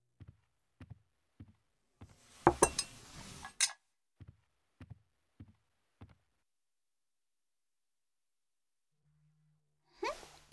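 Dishes and cutlery clink as a table is cleared after a meal, the dishes set down to be washed: a steady run of light knocks, a louder clattering jumble of plates partway through, then a short clink at the end, with no talking.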